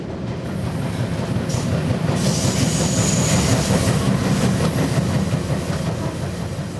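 The Rocky Mountaineer passenger train rolls steadily along the rails, a continuous low rumble with a faint rhythmic clatter of wheels and a thin metallic hiss above, with no voices.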